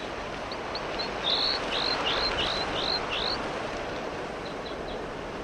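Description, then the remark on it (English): A bird, known as 4-3, calls repeatedly in a quick series of high, rising chirps that grow louder, then a few fainter chirps follow, all over a steady rushing wind. “The wind is blowing pretty much, and 4-3 is calling quite loudly.”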